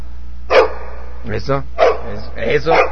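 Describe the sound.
A dog barks several times in short, sharp bursts spread across a few seconds, fairly close and moderately loud, with a brief voice-like sound between the barks.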